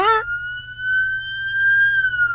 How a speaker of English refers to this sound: Ah, it's a siren. All right. They're coming to take me away.